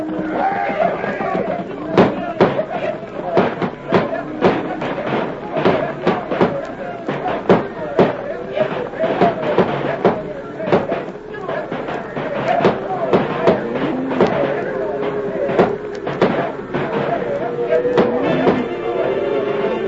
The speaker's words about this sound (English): Fire off your shooting iron! Start them critters to stampeding.